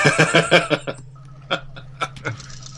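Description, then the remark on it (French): Retro sci-fi computer noises of the Nostromo's computer from the start of a 1979 film: a quick run of about half a dozen buzzy electronic chirps, then a steady low hum punctuated by a few sharp, isolated blips. “Ça, c'est de l'ordinateur.”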